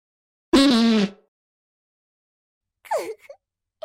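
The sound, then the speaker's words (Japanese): A loud, buzzy watery fart lasting about half a second with a steady low pitch, then after a pause a shorter sputtering burst that slides downward. No one speaks. “水っぽい音のが出てしもうたな。”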